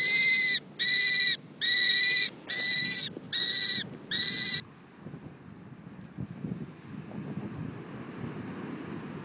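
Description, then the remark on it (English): A falconry bird used for pest bird abatement work lets out six loud, shrill, evenly spaced cries in quick succession, then falls silent, leaving only gusty wind and a low outdoor rumble. “I would say that this pest bird abatement falconry thing is not as easy as it looks.”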